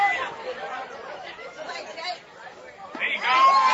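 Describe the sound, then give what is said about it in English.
A baseball stadium crowd murmurs steadily, then swells into louder cheering near the end for Jake Church's catch of a pop-up for the second out, with a high whistle cutting through the noise. “He'll get some cheers from the crowd on that one.”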